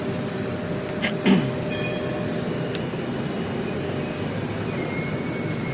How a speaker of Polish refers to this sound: Właśnie odjeżdża jeden tramwaj.